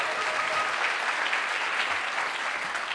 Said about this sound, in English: How about a little applause? Their first puck, ladies and gentlemen.